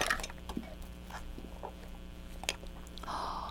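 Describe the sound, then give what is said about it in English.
Spoons, some decorated with monkeys, being rummaged through, with soft, scattered clinks and light rustling shuffles at an irregular pace, fairly quiet, with no one speaking. “I tell you what, you're going straight for the spoons.”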